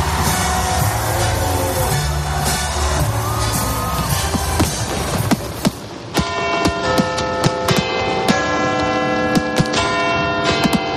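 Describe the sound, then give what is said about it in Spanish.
Bright bell chimes ring out on New Year's Eve with lingering harmonic tones, struck repeatedly amid a loud, busy festive din of street crowd noise and sharp bangs of fireworks. “fuegos artificiales, las campanadas, la música y el bullicio de las calles componen el paisaje sonoro de la Nochevieja.”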